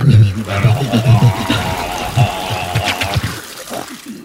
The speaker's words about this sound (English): would love some of that water from the sea into his mouth